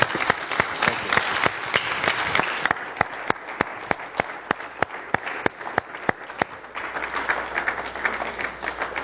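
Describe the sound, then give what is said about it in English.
An audience applauds steadily for about nine seconds, a dense wash of many hands with a few sharp, louder individual claps standing out in a regular rhythm through the middle. “All right, give me a hand.”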